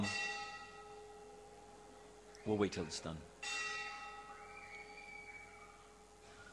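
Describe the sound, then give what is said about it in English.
A bell tolls with long, resonant ringing tones that hang steadily in the air throughout, while a person briefly speaks partway through over the lingering hum. “Nowhere do they say that it is for whom the bell tolls, it tolls for thee, time to end.”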